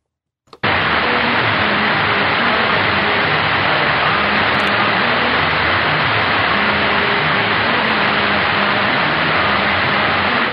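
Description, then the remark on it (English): A hissing, crackling AM radio broadcast from station KTXV, Radio Punjab, steady and loud throughout, with faint traces of music barely poking through the static for about ten seconds. No one talks over it. “Let me let you listen to this, and tell me if you think this is coming from Dallas.”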